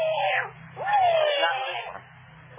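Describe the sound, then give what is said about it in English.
A cat in an alley meows twice in close succession, a short call followed by a longer drawn-out one with a falling pitch, fairly loud over a low background hum. “Go away, Kitty.”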